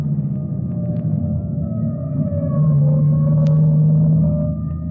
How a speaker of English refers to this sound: That siren is clearing the way for it. Let them get by. That's a salvage squad.